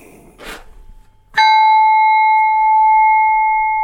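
A Burmese flat bell is struck once, giving a loud, bright metallic tone with layered overtones that rings on steadily without fading, after a brief rustle of handling.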